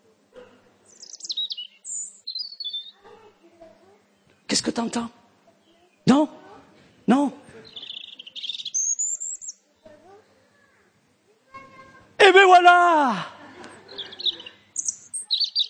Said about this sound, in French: Des oiseaux. Et qui c'est qui a créé les oiseaux?